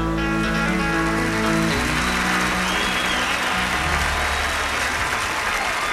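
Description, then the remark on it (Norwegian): A band's final held chord cuts off and a large audience breaks into loud, sustained applause for a singer at a 1970 concert in Las Vegas, dense clapping continuing steadily to the end. “Applaus til …, …, anno 1970”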